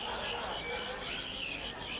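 A caged cricket sings a steady, high-pitched rasping trill that runs unbroken for two seconds, fairly quiet, over a low, muffled background bustle.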